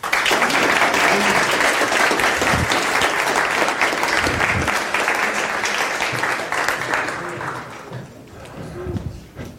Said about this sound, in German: Applaus.